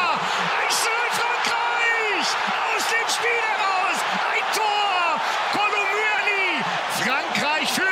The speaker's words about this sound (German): Großer Jubel da bei den Franzosen, aber es blieb nicht dabei.